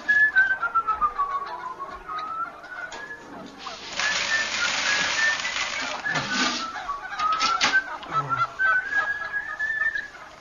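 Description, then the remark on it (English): A flock of geese honks and squawks, a dense, continuous chorus of overlapping calls with whistling, rising and falling tones, growing noisier and more frantic in the middle. “Get them off, please. Please, I can't stand it. Hate birds, you see.”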